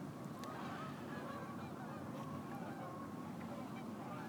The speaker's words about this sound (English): Can you hear the geese? Across the lake. Turn this way, it's better for the wind.